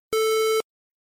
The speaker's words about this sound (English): When you hear a beep, answer the question.